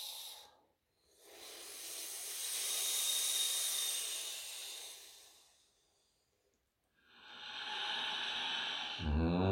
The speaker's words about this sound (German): Können dann auch wieder durch die eingerollte Zunge atmen.